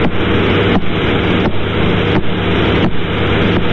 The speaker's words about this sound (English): Is the sound of the radio waves being emitted from a dead star far out in space. That's right. So each little tick you hear is as that cone of radio emission sweeps past the Earth, you can hear the pulsar turn on